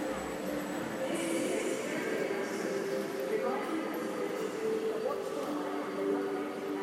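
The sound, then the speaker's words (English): Paddington Station, a busy railway station with three arcing train sheds of wrought iron and glass, hums steadily, with the low drone of idling trains, a constant wash of crowd murmur and faint hiss, all at an even level. “So you're the statue of Brunel in Paddington Station. You built this station.”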